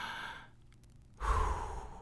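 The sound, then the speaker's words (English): A deep breath drawn in, a short pause, then a long, slow, breathy exhale, with no talking. “Literally just take in a deep breath. And let it out.”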